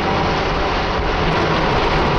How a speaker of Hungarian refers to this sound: Mézümmögés.